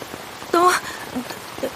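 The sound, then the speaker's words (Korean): Heavy rain hisses loudly and steadily in the dark, a dense wash of sound, with a brief high voice-like call rising over it partway through. “어두운 데다 빗소리가 시끄러워 누가 말하는 것인지 구분이 안 되었다.”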